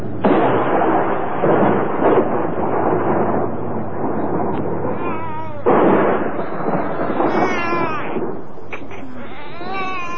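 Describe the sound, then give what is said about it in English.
Loud thunder from a storm rumbles and crashes in two long rolling bursts, then fades into quieter rumbling as a thin, wavering, voice-like sound rises near the end. “The storm must have woken him.”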